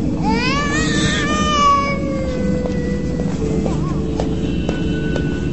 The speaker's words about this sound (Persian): هرچه میکنم آرام نمیگیرم. شاید دوست دارد به دست شما آرام شود. پس چرا آرام نشد؟ شاید این گریه و نارامی دلیل دیگری دارد.